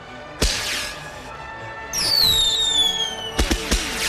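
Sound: fireworks exploding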